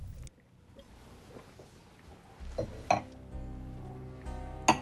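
Two drinking glasses clink together, one bright ring near the end of a low background hum and a second sharper clink shortly after, each leaving a brief shimmering tone.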